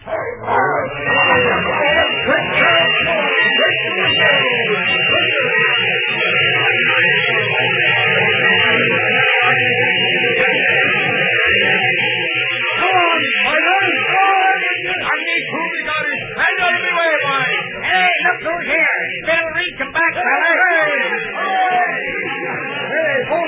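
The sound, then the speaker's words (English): A loud, unbroken roar of an angry mob at a depot, many voices shouting and clamoring at once, with sharp yelps and cries rising out of the steady surging din. “Bill Reed drops from the cab of the engine 1290 and fights his way through the surging crowd”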